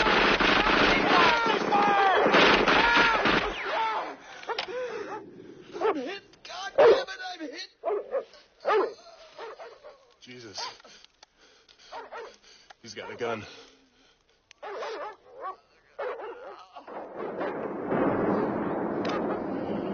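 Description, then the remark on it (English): Dogs being let loose to chase a man bark in rapid, excited bursts, some yips and whimpers mixed in, while people shout over them; a dense, noisy commotion opens and closes the scene. “Turn those dogs loose,”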